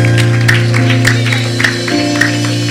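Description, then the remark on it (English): A church audience claps for the Lord Jesus in scattered, uneven bursts over a steady, sustained low musical drone, with no one speaking. “Clap for the Lord Jesus.”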